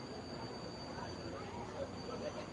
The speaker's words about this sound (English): Train continues to roll on by. A couple of oil tankers, some coal carts. Riverwalk Stadium built on an old train depot.